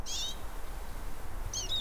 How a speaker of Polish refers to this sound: A tutaj też obok mnie, na jakimś iglaku, dzwoni sobie czyż.